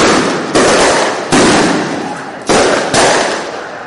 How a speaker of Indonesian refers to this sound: Kelompok yang umumnya terdiri dari anak-anak muda itu melempari garis polisi yang menghalangi jalan mereka dengan batu, kembang api, dan bahan peledak kecil yang dikenal sebagai bom pingpong.